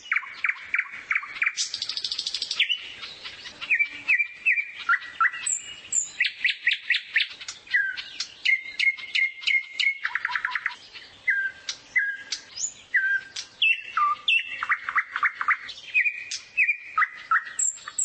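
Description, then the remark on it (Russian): A nightingale sings alone, loud and clear, pouring out varied phrases: rapid repeated notes, trills and whistles following one another almost without pause. “Некоторые птицы имеют свой диалект, можно сказать. Например, соловей литовский и около Петербурга отличается.”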